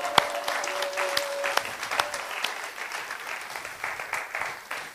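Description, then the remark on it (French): An audience applauds Jesus, clapping steadily for about five seconds, a dense patter of many hands at moderate loudness, with a brief faint tone near the start and no voices. “Voilà, on va applaudir Jésus.”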